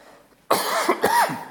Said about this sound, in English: Folks, the cough is very slow to clear up, I'm finding.